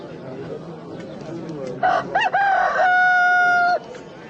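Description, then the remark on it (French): A rooster crows once, loud, opening with a few choppy notes before a long, steady held cry that cuts off sharply; faint background murmur comes before it. “Le coq ne chantera pas aujourd'hui que tu n'aies par trois fois nié me connaître.”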